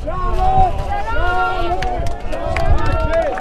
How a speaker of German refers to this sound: Mit Friedensrufen rennen sie auf eine kleine Gruppe zu, die in dem waffenstarrenden Checkpoint-Gelände auf sie wartet.